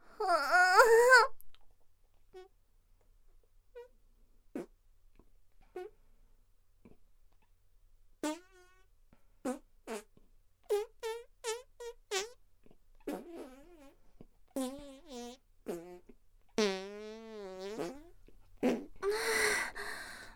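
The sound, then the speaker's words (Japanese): A voice imitates farts: a quick run of short, squeaky, wavering toots and sputters with brief pauses in between, ending in a longer wobbling blurt and some breathy noise. “ちょっと、私なりに、おならアイドルとして、とっても可愛いおなら出してみるね。”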